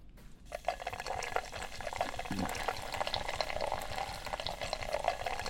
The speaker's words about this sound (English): We're pulling pints of Guinness.